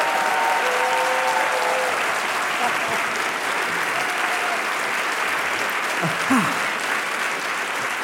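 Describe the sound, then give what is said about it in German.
A full hall of people at the Empore in Buchholz applauding steadily at a live show, a dense, even wash of clapping that holds at the same loud level for the whole stretch, with a few faint voices and whoops mixed into the crowd. “Und wir sind nicht allein. Im Gegenteil, der Saal ist voll und ein zaghaftes Klatschen habe ich schon gehört.”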